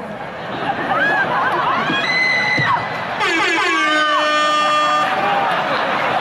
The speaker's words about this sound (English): Thanks, Fuse. That air horn always pushes a joke through. You ever do something regular, but if you do it with the air horn, it sounds better.